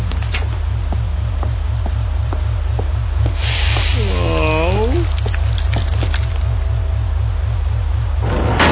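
Acid rain falls with a steady hiss and sizzle over a pulsing low hum, with scattered ticks and a brief wavering whine midway. No one speaks.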